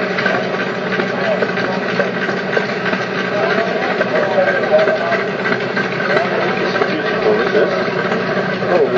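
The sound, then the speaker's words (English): A 1939 Crossley stationary engine, shown by the Waveney Valley District and Preservation Society, runs at a steady idle, its continuous mechanical chugging filling the scene, with voices murmuring faintly in the background. “It's a Crossley engine, 1939.”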